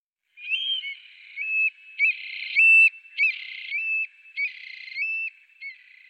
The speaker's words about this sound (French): Voici le dicnème criard, surnommé localement Turlu. Cet oiseau migrateur, aux grandes pattes et au plumage couleur terre, pond ses œufs dans un trou creusé dans le sol.